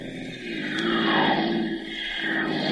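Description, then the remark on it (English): Automobiles pouring off American factory assembly lines at a rate of 1,500 cars each working hour, a loud, continuous roaring rumble with layered droning tones that swell slightly and then hold steady, with no voices over it. “Those are automobiles pouring off the factory assembly lines.”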